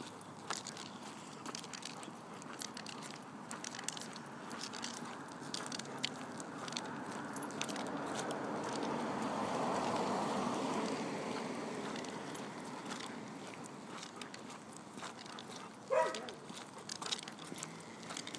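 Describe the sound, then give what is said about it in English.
Light rain falls outdoors during a Sunday afternoon walk, a steady soft patter of scattered drops crackling against surfaces, rising slightly in the middle as the earlier drizzle picks up, and continuing throughout with no talking. “And it's starting to rain.”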